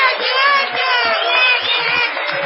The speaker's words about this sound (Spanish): Venos aquí en el Teatro Caras y Caretas con mucha gente amiga que se ha acercado esta noche. Los convido a saludar con una gran ovación